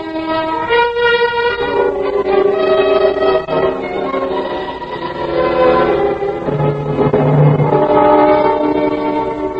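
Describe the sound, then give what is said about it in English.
A train horn blares loud in long sustained chords over the rumble of passing rail cars, the pitch shifting partway through as the blast continues without a break; no one speaks. “If we miss the 9 o'clock train, you'll never make that appointment tomorrow with your next husband.”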